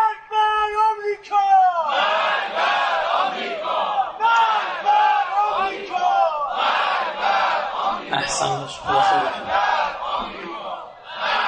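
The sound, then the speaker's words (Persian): A lone voice calls out briefly, then a large crowd bursts into loud, rhythmic slogan chanting, many voices shouting together in repeated surging phrases that rise and fall steadily. “امام آمریکا رو ام الفساد میدونه، یه همه هر چه فریاد دارید بر سر آمریکا بزنید.”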